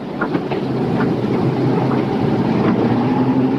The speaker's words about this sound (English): The convoy jounces along a beaten dirt road, splashing through muddy water in deep puddles.